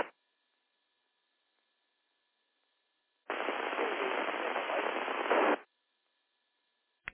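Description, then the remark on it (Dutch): A roughly two-second burst of harsh radio static, with a weak transmission buried deep in the hiss, only something with 'Tango Mike' coming through, set between silent stretches and brief squelch bursts at the start and end. “Dat staat diep in de ruis.”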